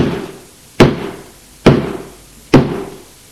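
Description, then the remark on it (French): Three heavy thuds of a woman pushing her shoulder against a locked apartment door, evenly spaced about a second apart, each a dull booming impact with a short rattling decay, loud with no voices. “Et essaye de pousser la porte avec son épaule.”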